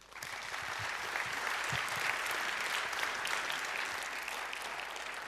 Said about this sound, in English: So please give a warm round of applause for a free and open source Verilog to Bitstream flow for ICE 40 FPGAs.